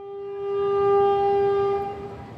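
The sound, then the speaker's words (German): A passenger train in Sri Lanka, on the nine-hour journey from the west to the east of the country, rumbles along the rails with a low, steady rolling noise, while a long, loud horn blast sounds over it for nearly two seconds before fading. “9 Stunden dauert die Fahrt mit dem Zug vom Westen in den Osten des Landes durch die idyllische Insel, die in Form einer Träne im Indischen Ozean liegt.”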